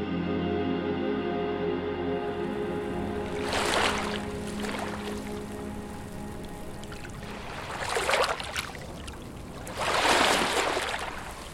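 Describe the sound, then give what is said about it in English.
Water washes and splashes in three rushing surges, the last the loudest, over a steady low humming drone; no one speaks. “wove together recordings they collected with Native languages, water sounds, and conversations.”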